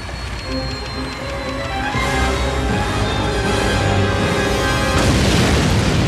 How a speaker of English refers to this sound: What is that? Whoa, I think that plane is crashing.